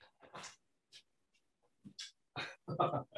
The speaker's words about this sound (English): So this is Vega. This is my German shepherd.